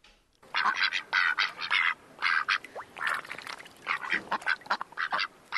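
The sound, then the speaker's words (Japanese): A person imitates a duck with rapid, raspy quacks in quick bursts, mixed with wet, splashy mouth noises mimicking water, made with lots of saliva held at both sides of the lips, with no talking. “おー、 これは アヒルね。”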